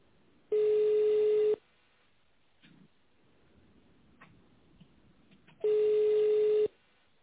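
telephone ringback tone

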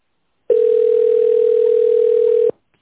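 telephone tone

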